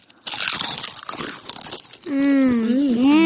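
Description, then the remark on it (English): Loud crunching of a salted potato chip in a taste test, a dense crackly burst lasting nearly two seconds, then a voice hums a long, wavering appreciative note. “That is what a potato chip is supposed to taste like.”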